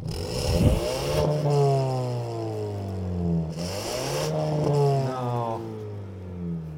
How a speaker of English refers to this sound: Vroom vroom it, Andre. 2.3 liter. Go for it.